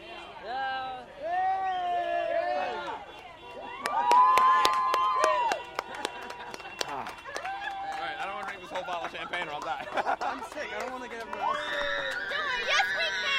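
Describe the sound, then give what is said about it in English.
A street crowd cheers and shouts while vehicle horns, including those of buses, honk in long, sustained blasts, with sharp claps and bangs scattered through the steady, loud commotion. “Even buses are honking the horns?”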